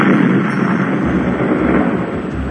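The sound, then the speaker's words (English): A long, loud, rumbling fart sound that roars steadily for a couple of seconds with a rough, noisy texture and heavy low end, with no voices over it. “Wait a minute, something's happening. I farted.”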